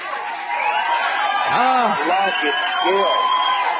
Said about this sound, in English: Do we have some applause for our lucky winner?